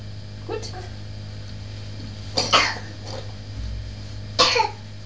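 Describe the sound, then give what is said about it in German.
A child blows their nose in a few short, breathy, snorting bursts separated by pauses, over a steady low background hum. “Oh, Nase putzen. Prima machst du das.”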